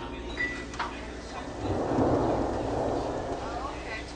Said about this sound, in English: Back to just a field recording. Just a light rain.